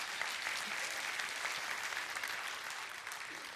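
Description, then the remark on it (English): An audience claps steadily throughout, a dense, even wash of many hands with no voices standing out, holding at a fairly constant moderate level before easing slightly at the end, congratulating two people who joined CCW as members. “I appreciate the clap, but they couldn't hear you.”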